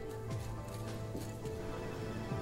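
Horse hooves clip-clop at an unhurried pace, a few distinct hoofbeats set against a steady low tonal drone that runs throughout.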